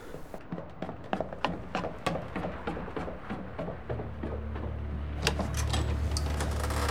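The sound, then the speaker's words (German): A door is opened with a quick series of clicks and rattles from the latch, then a low, steady hum swells up beneath it; no one speaks. “Wollen Sie nicht an die Tür gehen? Ihnen ist doch so langweilig. Warum machen Sie nicht auf?”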